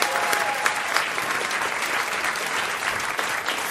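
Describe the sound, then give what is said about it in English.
Steady applause from an audience for a contestant on a radio show, a dense wash of many hands clapping at an even, fairly loud level throughout, with no one speaking over it. “You can clap.”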